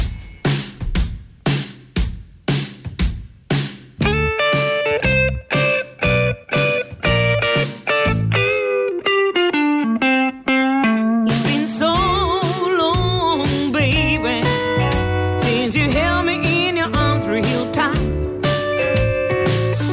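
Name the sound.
distorted electric guitar playing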